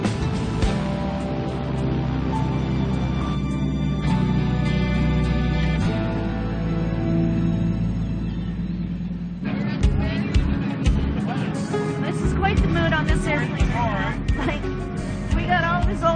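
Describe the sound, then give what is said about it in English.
Steady, loud roaring drone of airplane cabin noise during a takeoff climb from runway 16 on a flight carrying a man's ashes home to Yellowknife, with deep rumble throughout; partway through, voices and busy chatter rise over the continuing engine hum. “And it's just an honor to be actually on this airplane with him.”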